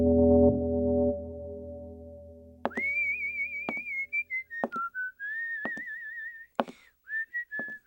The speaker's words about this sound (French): Le lendemain, le peintre Louis Bérou s'installe dans le salon carré. Il sifflote, il est de fort bonne humeur car il s'apprête ce matin à commencer un nouveau projet.